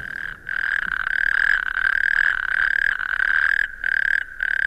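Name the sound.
natterjack toads calling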